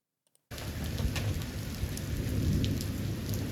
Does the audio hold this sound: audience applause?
no